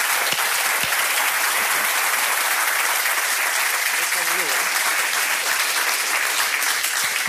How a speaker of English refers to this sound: And I think that applause counts for your team, for the team here, the guys in the audience, everybody that built this spacecraft years ago, some of whom are here and have been working on it.